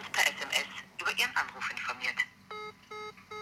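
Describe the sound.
Speech fills the first two and a half seconds, then a phone call rings out through a phone's loudspeaker with three even, steady electronic ring pulses, clear.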